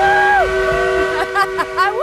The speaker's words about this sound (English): An actual working steam engine. It's one of the last in the world that burns actual coal. Blows it right in your face.